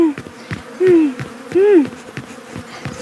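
Bees buzz steadily at Pinkie's bee farm, with a couple of louder swooping passes that rise and fall in pitch as individual bees fly past. No one speaks.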